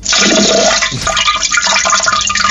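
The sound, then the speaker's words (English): A toilet flushes loud, a rushing gush of water that swirls and gurgles steadily for a couple of seconds with no voices over it. “For Christ's sakes, how about a courtesy flush?”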